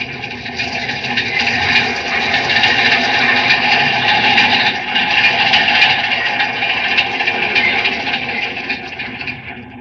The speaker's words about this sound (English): There's one of our metropolitan trains coming into this tunnel.